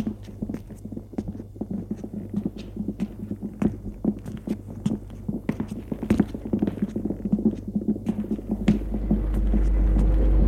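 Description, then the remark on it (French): Footsteps tap out an uneven series of sharp, hard knocks over a steady low hum, with a louder rumble swelling in at the very end. “Il entend des pas.”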